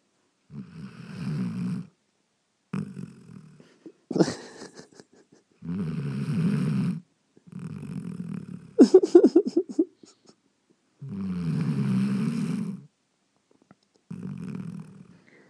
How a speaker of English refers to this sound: This is my partner's guide dog. His daughter's guide dog. It's only 2 years old, and it's snoring like that. I think it might have sleep apnea.